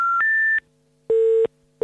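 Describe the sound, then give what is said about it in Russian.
A number being dialed on a mobile phone on 13 March at 23:20: a steady electronic beep that steps up in pitch, then a pause and lower, buzzier tones repeating at an even pace. No voices. “Женя берет в руки свой мобильный.”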